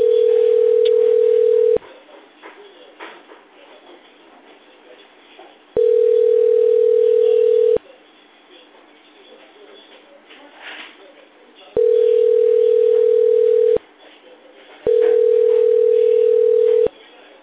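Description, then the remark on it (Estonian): A steady single-pitch telephone hold tone sounds in four separate beeps, each about two seconds long, loud against a faint murmur of background noise between them, on a call to the Allfresh sales department while all lines are busy. “Hetkel on kõik liinid hõivatud. Jääge palun ootele.”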